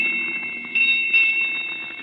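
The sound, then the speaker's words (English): A ship's bell strikes eight bells, ringing with a sustained, bright metallic tone, struck again twice in quick succession so the ringing swells and lingers, heard alone at moderate loudness. “Here come the bells.”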